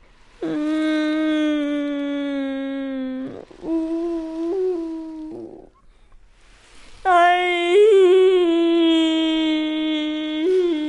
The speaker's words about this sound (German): Dabei verliert Captain Dernbeck immer wieder. Er fängt laut an zu weinen.